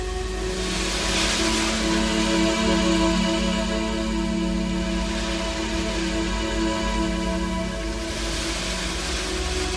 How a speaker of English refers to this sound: When I feel the sea air, hear the sound of the waves, feel the warmth of the sun and the coolness of the water, the beauty of this scene connects me to my own beauty, my own special qualities